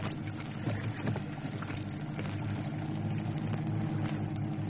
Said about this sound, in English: Paddle like hell. Patrol boat coming.